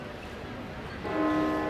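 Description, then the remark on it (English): After a second of busy outdoor ambience in Nottingham's Market Square, the clock tower bell strikes once and its rich, ringing tone hangs in the air, loud and sustained over the background bustle. “We came very close to using the sound of Nottingham's bells.”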